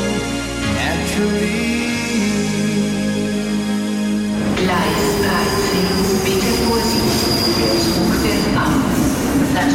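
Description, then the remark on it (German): Train wheels squeal loudly and continuously against the rails, a high, harmonic screech that shifts partway through into a rougher, rumbling grind as the carriage rolls on. “Ist das Ihr Alltag im Zug?”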